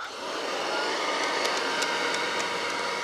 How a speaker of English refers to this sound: But a new plastic had been invented called Bakelite. So you begin to see Bakelite vacuum cleaners made after World War II. All right, so we'll run this one.